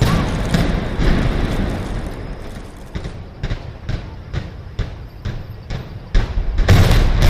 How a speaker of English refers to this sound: And I especially enjoy the sound a six-story building makes as it implodes.